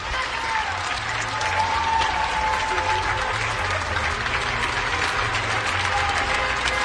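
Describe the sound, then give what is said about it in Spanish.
Sustained, steady applause from a large crowd in Spain for health workers, dense and loud throughout, with faint voices and a thin whistle-like tone mixed into the clapping. “Es decir, que España entera está aplaudiendo a nuestro personal sanitario.”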